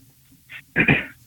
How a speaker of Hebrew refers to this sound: אתה בשידור, זה שאתה משתעל, זה עוד לא אומר שזה מעניין מישהו.